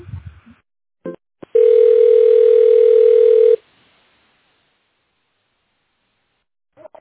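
A single steady telephone ringback tone drones for about two seconds at a mid pitch while a call is connected to the Technoprogress group of companies, preceded by a few faint clicks, then silence with a brief murmur of voice at the very start and end.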